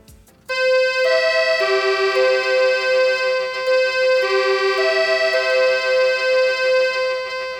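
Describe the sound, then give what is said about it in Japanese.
An auxiliary warning alarm, or music horn, used on Odakyu Line commuter trains, played from a 30 cm box unit marked AC100V, gives a steady, bright electronic tone with harmonics, switching between pitches in a repeating pattern that loops once. It is loud, with no voices. “これね、小田急線に乗っかっている補助警報、 ね、うん、はい、 補助警報 音。”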